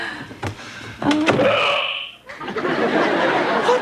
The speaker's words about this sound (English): What is that? Oh, Mom, it's Alf. He has the hiccups.